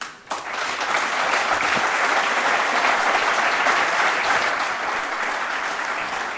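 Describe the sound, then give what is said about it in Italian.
Sustained spontaneous applause from an audience, a dense, steady wash of many hands clapping at once, loud, holding level for several seconds before easing slightly at the end. “Chiarissimo l'applauso spontaneo della platea”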